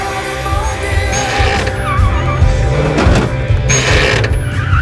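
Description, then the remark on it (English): A sleek yellow sports car's engine stutters and sputters as it approaches a school car park and comes to a halt, a loud, continuous low rumble broken by uneven bursts and rattling, mechanical clatter, with no voices. “A sleek yellow sports car makes a stuttering approach into the school car park and comes to a halt.”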